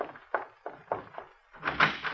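door being opened

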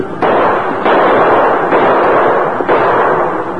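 gunshots

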